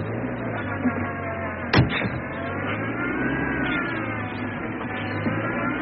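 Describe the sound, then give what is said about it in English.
A car engine revs hard and accelerates to crash through a gate, its loud roar climbing steadily in pitch, broken by a brief sharp knock partway through. “I'll have to crash the gate.”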